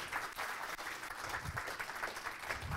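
An audience gives a speaker a standing ovation, many hands clapping in a dense, continuous wash of sound that stays fairly even in loudness throughout, with no voices standing out.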